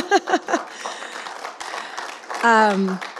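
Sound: audience clapping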